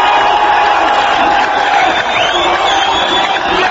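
A large crowd of spectators cheers and shouts continuously, a dense, loud wall of voices with occasional whoops rising above the roar throughout.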